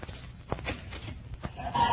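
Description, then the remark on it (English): Chickens in a hen house cluck in short, irregular bursts, a few sharper calls standing out, with a slightly louder, drawn-out squawk at the end, all at moderate volume with no talking. “Well, sounds like somebody behind the hen house.”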